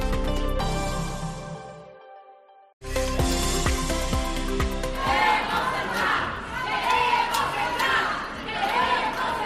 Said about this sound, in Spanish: Así gritaban ayer lunes algunos vecinos y comerciantes de O Morrazo a las puertas del Concello de Cangas contra la subida del recibo de la basura que aprobaron ayer lunes los concellos que forman parte de la mancomunidad de O Morrazo.